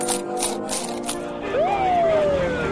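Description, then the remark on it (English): Coins rattle in a cup on a New York City street in three or four quick, bright shakes over a steady street hum, then a high tone rises and slowly slides back down. “Change in a cup.”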